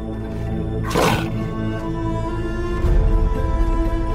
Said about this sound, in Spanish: Su pelaje manchado y sus afiladas garras son solo algunas de las herramientas de este cazador. El jaguar, un majestuoso felino que habita las sierras y costas de Jalisco.